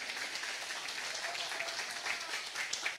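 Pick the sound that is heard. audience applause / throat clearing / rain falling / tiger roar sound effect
audience applause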